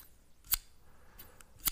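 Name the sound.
scissors snipping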